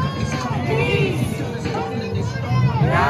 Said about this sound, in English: That was the crowd gathered in Venice yesterday, one of the many gatherings across LA, Westminster, Laguna Beach, and all around the world.